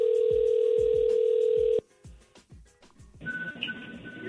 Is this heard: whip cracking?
no